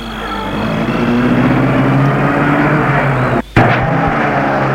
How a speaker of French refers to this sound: Va vers sa voiture, entre dedans et la met en route.